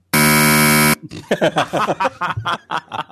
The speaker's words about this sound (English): This is the Craig fail buzzer.